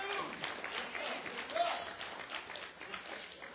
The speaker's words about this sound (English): And I just want to share with you, yes, give God applause. Give God applause.